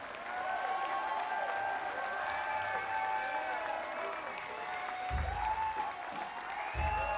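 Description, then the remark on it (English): A crowd at St. Mark's Social claps steadily and loudly throughout, with cheering voices and whistle-like calls rising above the dense applause and a couple of low thumps near the end. “Let's have a big round of applause for Justin Mallon on the St. Mark's Social.”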